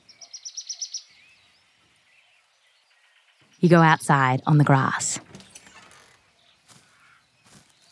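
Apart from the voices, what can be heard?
birds tweeting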